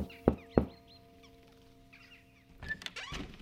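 Two sharp knocks on a wooden door at Vikby on Little Christmas land about a third of a second apart, followed by a quiet pause and then a few softer scraping, shuffling sounds.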